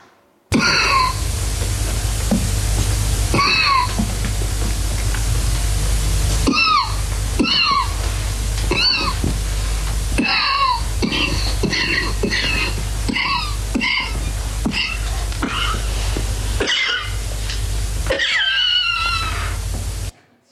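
A string of harsh, raspy coughs, some single and some in quick clusters, with voiced, strained edges, over a constant low rumbling background for about twenty seconds.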